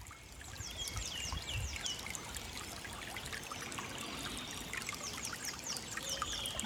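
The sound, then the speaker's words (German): The Heisterbach, a small brook near the Drachenburg, babbles steadily over stones in a continuous trickling and splashing, with birds chirping faintly in the background. “Der Heisterbach plätschert.”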